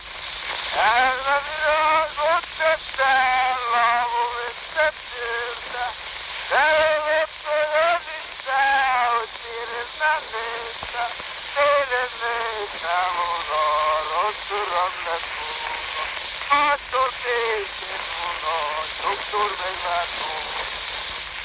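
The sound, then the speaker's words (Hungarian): A classic old phonograph recording of a folk tune in the kanásztánc (swineherd's dance) rhythm style: a solo voice sings a wavering, ornamented melody, thin and muffled, beneath a constant layer of loud hiss and crackling surface noise. “Elsőként egy klasszikus fonográf felvételt hallunk.”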